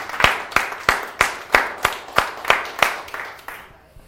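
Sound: audience applauding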